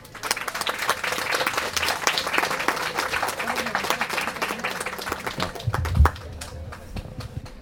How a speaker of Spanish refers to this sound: Demos fuertes aplausos a nuestra compañera